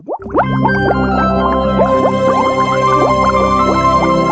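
Liquid bubbles continuously, a dense, steady stream of small popping, gurgling bubbles, fairly loud, with no pauses and no voices.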